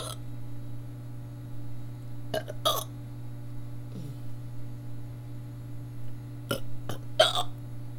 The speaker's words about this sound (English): I've been burping a lot and then I hiccup. I think I have the I do. I have the hiccups.